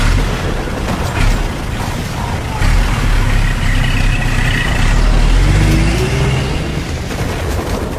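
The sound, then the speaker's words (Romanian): A car engine rumbles steadily, with a deep low drone that swells and rises in pitch partway through as it revs, and no voices over it. “Portiți în mașină, majestate. Să porniți spre front.”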